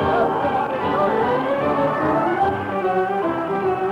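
A large crowd cheers and clamors continuously, a dense wall of many overlapping voices holding at a steady, fairly loud level throughout with no single voice standing out.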